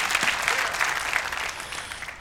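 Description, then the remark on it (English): Steady, dense clapping picked up through a microphone that was left on, with tapping on that microphone; a continuous bright patter with no clear pauses, fairly loud throughout with a faint voice underneath. “I think that there is a microphone left on because somebody keeps clapping and I can hear them tapping on their microphone.”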